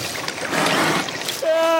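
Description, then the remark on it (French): A seal calls with a steady, voice-like wail near the end, holding one pitch and sounding almost human, after a stretch of rushing, splashing water noise. “Eh ben, c'est un phoque.”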